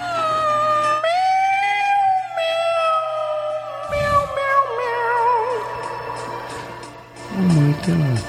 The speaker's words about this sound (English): This is the cat. I think very impressive. Great. I think he is doing good.